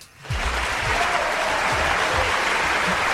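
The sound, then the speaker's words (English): A crowd cheering and applause sound effect: a crowd bursts into loud, sustained applause and cheering after a brief quiet start, a dense wash of clapping with voices whooping underneath that holds steady to the end. “And the crowd goes wild.”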